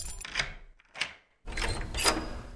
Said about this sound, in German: Er wollte die Tür öffnen, aber sie war verschlossen. Er griff in seine Tasche und holte den Schlüssel heraus. Dann schloss er auf.